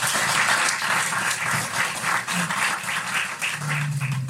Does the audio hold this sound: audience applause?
yes